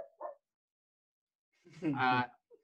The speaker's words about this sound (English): the dog, sorry.